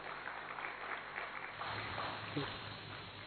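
Steady, dense audience applause welcoming a singer, with a constant crackle of many hands clapping and no clear pauses, fairly loud throughout, with a faint murmur of voices mixed in.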